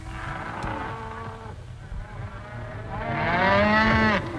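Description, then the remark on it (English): A domesticated cow moos twice, first a long low call, then after a short pause a louder, rising moo that fills the space, with no voices around it. “The cow became a very useful animal.”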